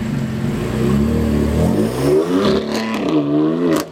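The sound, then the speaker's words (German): A woman takes her car out of the garage: the engine turns over and revs, its pitch rising and falling as it pulls away, with a dense mechanical rumble throughout and no voices. “Sie holt ihr Auto aus der Garage”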